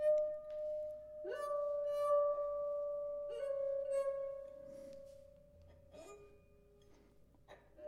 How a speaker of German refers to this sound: Das ist das halbvolle Glas. Das noch ein bisschen voller und dann das ganz volle Glas. Das macht einen ziemlich tiefen Ton.